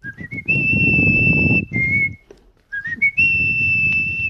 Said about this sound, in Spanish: …. … de Hoyo de Manzanares silba la segunda parte de la melodía.